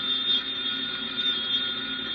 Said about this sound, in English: Want me to get the phone? You know, I'll answer it.